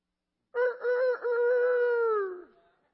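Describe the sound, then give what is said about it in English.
A rooster crows once, loud, a few choppy opening notes giving way to a long sustained call that trails off and drops in pitch at the end. No one talks. “Okay, that was a rooster.”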